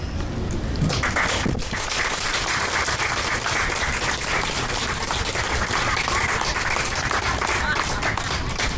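An audience applauds steadily, a dense wash of many hands clapping at an even loudness for several seconds without pause.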